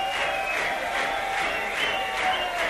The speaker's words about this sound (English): it's possible to appreciate on the radio the noise level, the sheer volume of the applause and shouts and cheers and rhythmic clapping that's going on here at the bottom line, but it far and away surpasses anything I've seen here in the last 3 years.